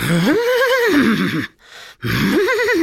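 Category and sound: animal, horse neighing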